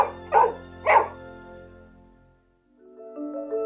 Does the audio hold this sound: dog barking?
yes